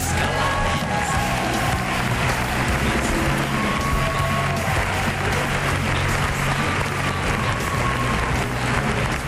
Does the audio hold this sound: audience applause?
yes